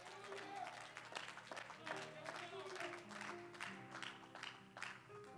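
An audience claps in praise of God, steadily and loudly throughout, a dense wash of hand claps over sustained musical chords that hold underneath.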